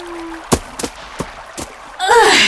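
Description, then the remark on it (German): A few sloshing splashes come at uneven intervals, like steps wading through standing flood water, moderately loud, before a voice starts speaking at the very end. “Ups, alles überflutet.”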